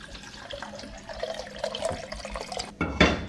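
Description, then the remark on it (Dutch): Filtered water pours steadily into a pan for cooking rice, a continuous splashing rush that swells louder near the end, with no voices. “Ik neem ongeveer anderhalf, nou bijna twee keer zoveel water.”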